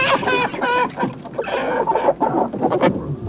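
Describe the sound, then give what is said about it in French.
Chickens cluck and squawk in a busy, overlapping flurry of short harmonic calls, steady in loudness throughout, with no talking, as a rooster watches over the poultry. “En voilà un effronté, lance le coq en train de surveiller la volaille.”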